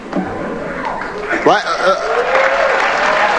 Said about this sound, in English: Yeah, I want to know who's applauding that.